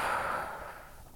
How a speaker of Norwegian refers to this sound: Vi puster godt inn med nesa. Og så holder du pusten. Og pust ut.